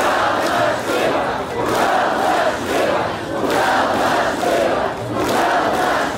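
Thousands of protesters against the arrest of governor Sergei Furgal block the city's main streets and chant slogans such as "Free Furgal" in loud, rhythmic unison in front of the city hall, the shouted phrases rising and falling in repeating waves of about a second and a half, steady and dense throughout.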